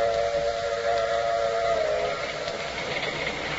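A steam train whistle blows in one sustained, steady tone with a hissing, rumbling rail background, loud, with no voices.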